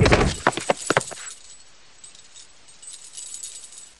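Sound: keys jangling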